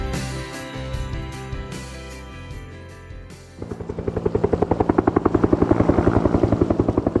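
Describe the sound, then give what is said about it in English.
A helicopter flying over a mudslide site in Oso, Washington: its rotor chop rises in partway through, a loud, rapid, steady thumping that grows heavier, following a few seconds of sustained humming tones. No one speaks. “the sound of helicopter there over Oso, Washington, and the huge of Saturday's enormous mudslide.”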